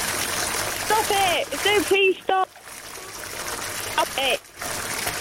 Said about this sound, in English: It's just the sounds of water there trickling away. Stop. Oh, I know what you're doing. Please turn the water off. I don't like it. Turn it off.